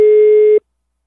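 A telephone busy tone after the other party hangs up: one loud, steady electronic beep held for just over half a second, then abrupt silence. No voices.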